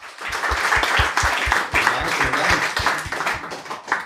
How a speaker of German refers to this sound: Kleiner Applaus bitte.